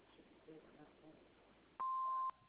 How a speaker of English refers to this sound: We're not at home right now. You know the routine. At the beep, leave us a message.